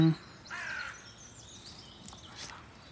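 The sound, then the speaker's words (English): A few harsh caws and calls from jackdaws and crows, faint, sounding twice with a pause between over a quiet outdoor background. “Some jackdaws and crows.”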